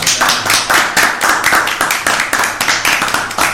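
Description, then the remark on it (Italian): An audience breaks into applause for Giuseppe Bergomi, a dense, steady stream of many hands clapping at once, loud and sustained throughout with no voices over it. “È lui, un applauso.”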